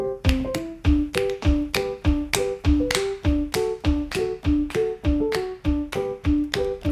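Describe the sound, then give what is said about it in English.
A fist smacks into an open palm over and over in a steady, quick rhythm, each slap sharp and fairly loud, layered over a light melodic musical backing with no talking. “Alright, then hit your fist with your other hand like this.”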